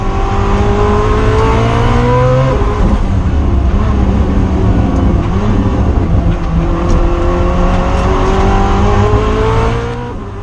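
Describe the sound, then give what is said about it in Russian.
A hypercar's combustion engine of some 1,200 horsepower roars loudly and continuously, its pitch climbing through rising revs, dropping at a gear shift, then climbing again before easing off at the end. No one speaks. “Это один из последних, я думаю, представителей гиперкаров, который может еще так звучать, потому что у него двигатель внутреннего сгорания.”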